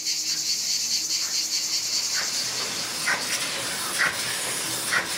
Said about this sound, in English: Provence, a valley of vineyards and parasol pines, stretches off into a hazy distance of bluish hills. In the sun, the cicadas are singing.